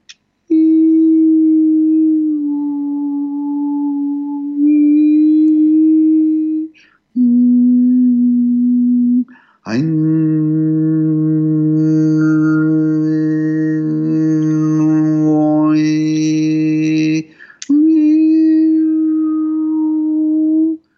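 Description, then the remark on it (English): A harmonizing healing tone: long, steady low hums held for several seconds with short breaks between, the middle passage layering two pitches together with shimmering overtones above, fairly loud and without talk. “If you have chronic pain throughout the body that's kind of systemic, where it's not in a specific spot, what you could do is just a really beautiful harmonizing sound.”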